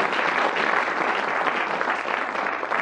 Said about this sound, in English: Storm of applause, because that's part of the rules I didn't mention.